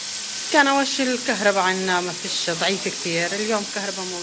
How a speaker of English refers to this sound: Well, walking into the kitchen, you can see the water and electricity in full use, the tap running and a pot bubbling on the stove.